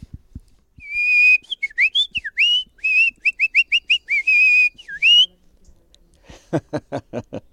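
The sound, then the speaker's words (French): A person whistles an imitation of a nightingale's song: high, warbling notes in quick repeated bursts with rising and falling slides, ending in a rapid run of harsh, clicking pulses. “Le rossignol, vous savez le faire ?”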